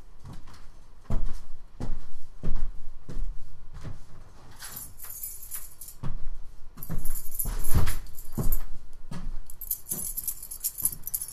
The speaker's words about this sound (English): So many keys. Oh, I wonder which key is it? How did I mark them? There are letters on them.